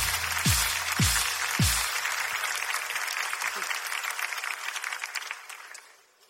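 An audience claps in a dense, steady burst of applause, with three heavy low thumps near the start, then the clapping thins out and fades after about six seconds.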